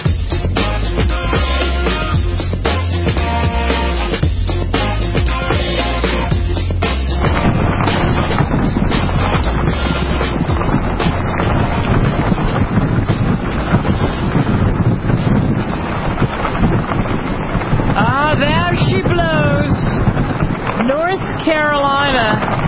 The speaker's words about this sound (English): Getting slammed, you can hear it right now, by the latest storm